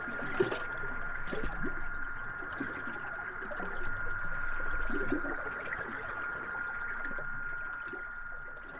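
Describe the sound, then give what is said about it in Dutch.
A steady stream of coffee pours into a cup, a continuous trickle with a faint ringing tone through its gurgle, going on for several seconds with no talking. “Zal ik nog een bakje koffie inschenken?”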